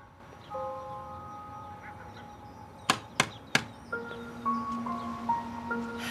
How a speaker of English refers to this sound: She knocks on the door.